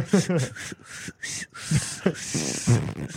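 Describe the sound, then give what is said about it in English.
A voice mimics a hissing, whistling rush of air escaping, a so-called 'anus whistle' added to a song, in several short breathy bursts with a brief high tone, moderately loud, mixed with voiced sounds. “It sounds more like air escaping than air being forced out.”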